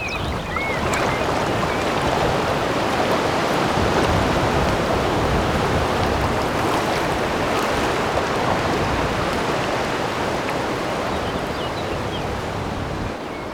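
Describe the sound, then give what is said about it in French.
Strong, tempestuous gusting wind roars across the open water of the Étang de Barandon pond in a dense, steady wash of noise, loud for the whole stretch with barely any letup and no voices. “Étang de Barandon, sans le vent tempétueux, un miroir lacustre paisible, cerclé de verdure.”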